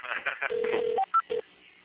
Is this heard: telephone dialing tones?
yes